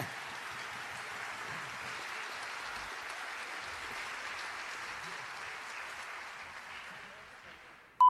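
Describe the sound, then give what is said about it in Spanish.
An audience in the main hall of the Usina del Arte claps steadily after a performance with bombo drums, broadcast live on Radio Nacional Folclórica, in a dense, sustained wash of applause that holds for several seconds before thinning out, ending with a brief sharp tone. “Que se reitere ese aplauso”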